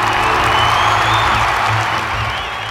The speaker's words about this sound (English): Everyone thinks Bois-Guibert will win, but the stranger knocks him to the ground. There is a great cheer.